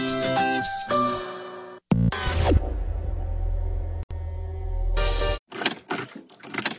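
A car that has sat unused for a long time fails to start: keys jingle, then a starter cranks with a low, grinding rumble for about three seconds and cuts out without catching, followed by a few sharp clicks.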